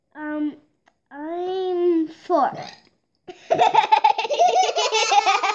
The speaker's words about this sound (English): But you decided to burp while I'm recording an exclusive interview with your brother. And you guys think that's pretty funny.